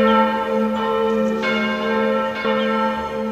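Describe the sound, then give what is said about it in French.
A school building's clock tower bell, the tower holding a clock topped by a weathervane, rings alone, struck about four times at a steady, unhurried pace, each loud, mid-pitched clang ringing on and overlapping the next. “Ce qui caractérise le bâtiment de l'école, c'est son clocher avec une horloge surmontée d'une girouette ainsi que la porte d'entrée tripartie en bois.”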